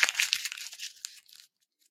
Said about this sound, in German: Ich werde jetzt das Blatt Papier zerknüllen.